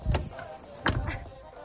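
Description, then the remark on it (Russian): A car door is slammed shut twice in quick succession, harder the second time, two dull, heavy thuds less than a second apart, over a faint steady hum. “Еще сильнее чуть-чуть. Сильнее надо закрывать”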